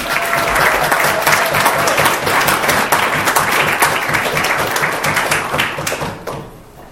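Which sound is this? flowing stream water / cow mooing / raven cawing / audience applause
audience applause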